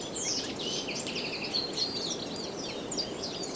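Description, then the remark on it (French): Several birds chirp and trill in quick, overlapping bursts over a steady, breathy wash of wind noise, the songs continuous throughout, on a mountain path among trees in the Pyrenees. “Une brise venteuse, un chemin, des arbres, des oiseaux.”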